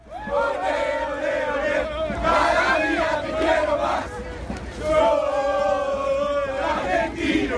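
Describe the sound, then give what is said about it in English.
A large soccer crowd at CenturyLink Field in Seattle, at a Copa America match between Argentina and Bolivia, chants and cheers in unison, a loud, sustained roar of many voices rising and falling in sung waves, with a brief dip before swelling again. “On Tuesday, a diverse crowd poured into CenturyLink Field to watch the number one national team, Argentina, take on Bolivia.”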